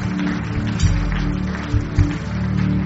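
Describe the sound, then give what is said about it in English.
The Koinonia audience claps steadily for people coming forward to Jesus, in a dense, continuous wash of hand claps, with a low, droning musical hum underneath and a few louder thumps standing out. “Koinonia, let's begin to clap for them as they come.”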